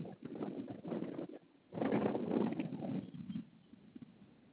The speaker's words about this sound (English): Let's go see the birds.